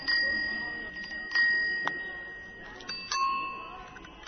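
A small classic-style bell rings several times in quick bursts, each strike leaving a bright, high metallic tone that hangs and slowly fades. The ringing is clear, with no voices.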